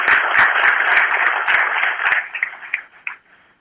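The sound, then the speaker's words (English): An audience breaks into a round of applause for Representative Andy Murr, dense and steady for a couple of seconds before thinning into a few scattered claps and fading out. “but even though he's not here, he's got a new baby, let's give Representative Andy Murr a round of applause.”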